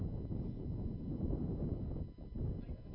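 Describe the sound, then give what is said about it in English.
Heavy, continuous wind buffeting a microphone at Bill Johnson Community Stadium in Palisadro, California, during a game, a deep rumbling roar that fills the whole stretch with only a brief dip near the end. No one speaks. “Windy conditions, very windy conditions. My water, my coffee, it's all getting blown over.”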